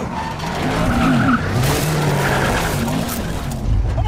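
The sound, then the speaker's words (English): Tires squeal and skid loudly over a roaring car engine as a car is chased by a motorcycle gang, a continuous rush of screeching and rumbling, intense throughout. “So, we're recording the show in the back of a car with a motorcycle gang chasing us.”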